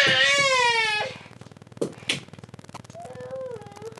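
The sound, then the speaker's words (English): A small child cries loudly in a long wavering wail for about a second, then quieter whimpers and short sobs follow, with a rising, falling whine near the end. “Sorry, we have a small child.”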